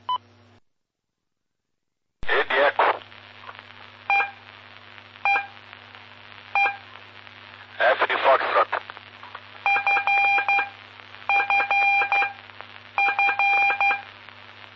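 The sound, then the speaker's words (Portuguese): A voice speaks briefly, then Morse code tones follow during a telegraphy lesson: crisp, fairly loud beeps in short and longer bursts, grouped into letters with pauses between the groups. “aí com as aulas e telegrafia.”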